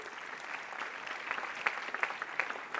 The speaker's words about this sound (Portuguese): Uma salva de palmas para a palavra de Deus, se puder.